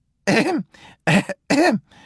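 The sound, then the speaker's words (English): A voice fakes a cough, three loud, rasping throat-clearing bursts in quick succession, each trailing off into a softer breathy rumble, with no talking. “A little, replies the wolf, pretending to cough.”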